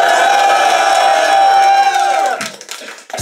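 crowd cheering and shouting

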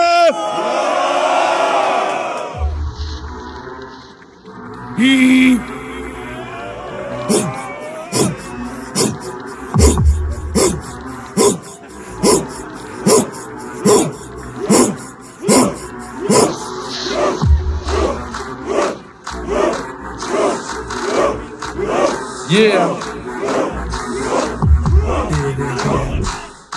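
crowd cheering and shouting

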